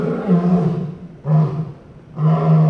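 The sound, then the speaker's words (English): Luke the lion at the Smithsonian's National Zoo in Washington, D.C., chuffs before 8 in the morning in three deep, throaty bursts, each a loud rumbling grunt separated by short pauses, with no talking. “Luke the lion chuffs.”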